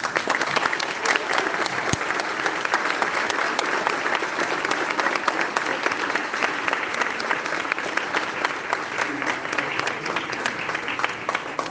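Sustained audience applause saluting the teachers present on 15 October, a dense steady patter of many hands clapping at even loudness for about twelve seconds with no talking over it.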